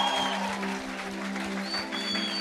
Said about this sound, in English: Come on, give the Father a hand clap. Воздайте Отцу, пожалуйста, славу.